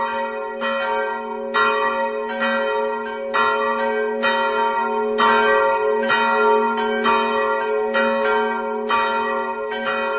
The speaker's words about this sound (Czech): Sada su i velika zvona sa tornja počela da bruje i sva su okolna zvona u tome kraju prihvatila taj zvon i pridružila im se tokom tih dana.